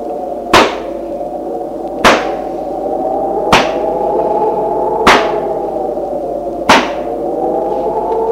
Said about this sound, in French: Un gendarme leur dit, faut entrer, défoncer la porte. Et tous les deux donnent des coups vigoureux d'épaule contre la porte.